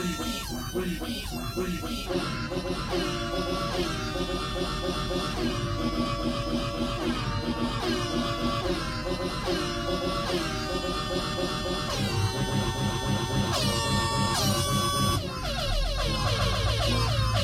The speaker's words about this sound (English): In addition to the narrow-mouthed toad, the four tree frogs, and the three frogs in this Floridian chorus, there are two toads. The larger of the two is a southern toad, Bufo terrestris, with a relatively loud trill.